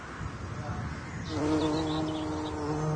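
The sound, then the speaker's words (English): Wild bumblebees buzzing inside a colony being sampled for pollen, nectar and wax to test for pesticide traces, a dense, droning hum that swells louder after a second and then holds steady, with overlapping wingbeat tones. “The bees will have this all patched up in a day or two.”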